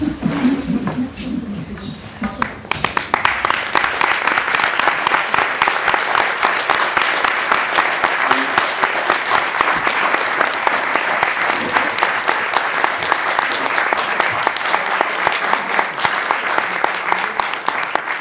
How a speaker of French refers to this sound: Ces applaudissements étaient plus pour moi que pour eux.